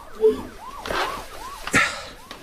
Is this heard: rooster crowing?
no